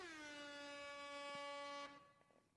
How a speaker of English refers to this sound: Yes, Jamaican air horn.